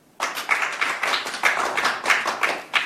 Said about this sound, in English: Anybody? I think that's called a smattering of applause.